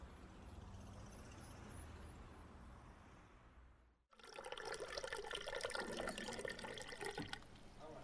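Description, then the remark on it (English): Steady hissing rush of running water, loud, as if from a tap, with a quieter, muffled stretch before it abruptly cuts in. No one speaks. “Can't fault the water they supply.”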